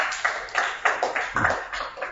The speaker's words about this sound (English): Clap your 2 hands for them.